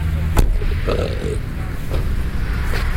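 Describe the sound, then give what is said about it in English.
A single short, low burp outdoors on a cold day rises briefly out of steady rumbling background noise, preceded by a sharp click; no one speaks. “Did you just burp?”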